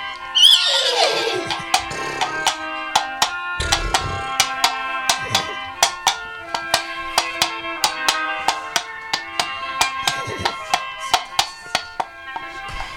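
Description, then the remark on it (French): A black and white horse gives a shrill, descending whinny, then steady clip-clopping hoofbeats take over in a quick, even rhythm as it is ridden toward Lessine, fairly loud, over a soft sustained musical backdrop. “Ni une ni deux, elle monte sur son cheval noir et blanc éclair en direction de Lessine et de cette nouvelle aventure.”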